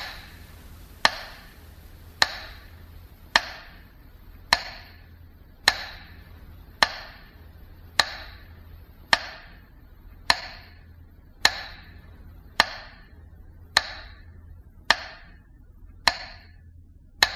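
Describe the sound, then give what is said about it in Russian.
A metronome sounds at a 22 June remembrance commemoration, ticking steadily, about one sharp click per second, each crisp tick ringing briefly before the next, with no voices and only a faint low hum underneath. “И снова проходят митинги, зажигаются свечи, горит вечный огонь, звучит метроном.”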